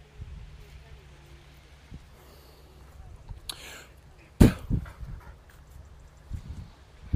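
A dog snuffles after bringing back a ball, with a couple of sharp, breathy sniffing bursts and some soft rustling over a low, steady outdoor wind rumble on a breezy day.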